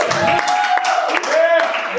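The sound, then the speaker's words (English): A crowd applauds the two co-writers of the film Graffito, steadily and fairly loudly for a couple of seconds, with scattered cheers and a whistle rising above the dense clapping. “A little round of applause, everybody.”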